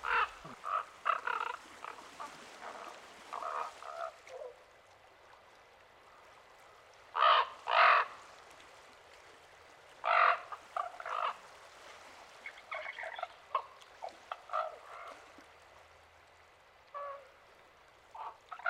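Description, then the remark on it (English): A common raven gives a series of loud, harsh croaking calls, some in quick pairs, spaced out over several seconds with quieter chatter between them and no talking. “The common raven looks a lot like a crow and is often mistaken for one.”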